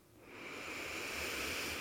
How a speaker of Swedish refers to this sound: Bara följ med din egen andning. Andas in.